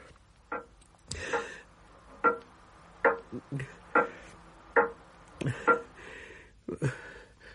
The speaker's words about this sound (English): Clock. It stopped.